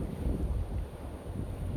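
Wind blowing steadily across the microphone outdoors on a sunny, mild day, a continuous low rumbling buffet with fluctuating gusts and no voices.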